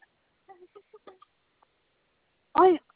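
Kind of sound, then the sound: bird, pet bird squawking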